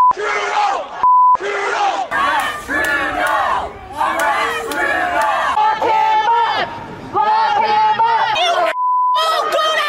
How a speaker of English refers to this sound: But also, I'm guessing some of them probably a bit harsh, judging by some of the reactions he got on the campaign trail. Anti-vaccine protesters yelling and swearing.